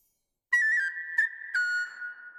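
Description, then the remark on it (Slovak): A small pipe (píšťalka) plays a short run of bright, clear notes, a few held tones joined by quick breaks and small pitch dips, fairly loud with no talking. “Prinášam ti, kráľu, píšťalú očku malú.”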